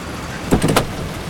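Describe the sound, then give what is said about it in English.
A car pulls up and stops opposite a park overlooking a pond: a low, steady rumble with a quick cluster of three or four short mechanical clunks midway, then the idle hum continues. “Olivia pulls up opposite the park overlooking the pond.”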